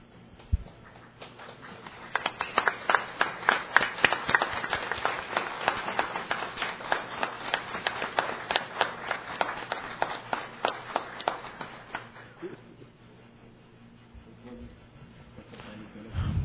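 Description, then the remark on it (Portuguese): A round of applause from a group in a legislative house session honoring education professionals, with brisk, dense clapping that starts quickly, holds steady for about ten seconds, then thins out and fades into quiet murmuring. “E eu quero, nesse momento, ficar de pé e vou salvar vocês, profissionais de educação, com a salva de palmas.”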